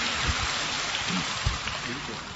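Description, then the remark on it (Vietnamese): A steady round of applause from an audience welcoming a woman who comes up to give her testimony, dense crackling clapping that holds at an even level for a couple of seconds, with faint voices murmuring underneath. “Một tràng pháo tay để chúng ta đón chào người chị em này.”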